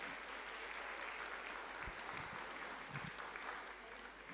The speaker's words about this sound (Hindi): तो कहने का मतलब कुमारों का इतना ध्यान रखती थी, भाई ताली बजाओ ना जरा कुमार।